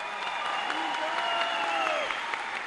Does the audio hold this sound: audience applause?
yes